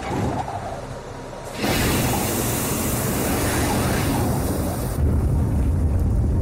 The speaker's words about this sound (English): And the jetpack's 8 engines light up for about 40 seconds.